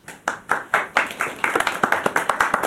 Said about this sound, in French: Vous voyez les lycéens qui ont sué sur votre texte vous applaudissent quand même à la fin.